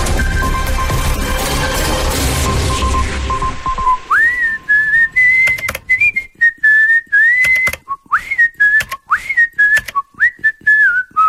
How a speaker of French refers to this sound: Si vous aussi vous voulez siffler en travaillant